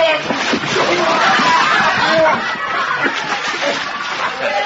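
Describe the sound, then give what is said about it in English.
A loud splash as a man is thrown into water on a wedding night, followed by churning, sloshing water for several seconds, with voices and some laughter mixed in. “but now we put you in water.”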